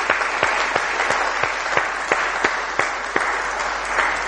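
A round of applause from an audience, steady clapping filling the room for several seconds with sharp individual claps standing out, fairly loud and close.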